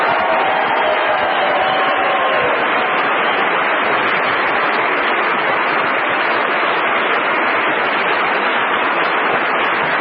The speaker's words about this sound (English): It's boo for the men who dumped on themselves. Let's have it. And applause for the bright-eyed ladies that were on the corner today.